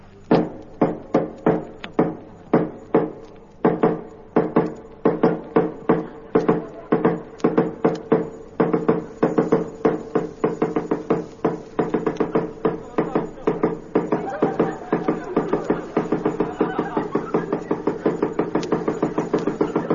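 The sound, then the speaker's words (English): Persistent knocking on the door of a tea house, dozens of sharp raps in quick succession, starting in uneven bursts and settling into a rapid, steady rhythm. Fairly loud, with no voices. “I knocked 6,000 times.”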